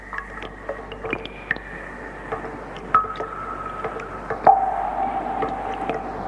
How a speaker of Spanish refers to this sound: Uno sabe que a veces, en el silencio de la noche, un ruido leve, ligero, pero persistente, como una simple gota de agua, provoca inquietud, incluso miedo.